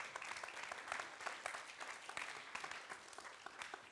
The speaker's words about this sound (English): So somebody clap, you can.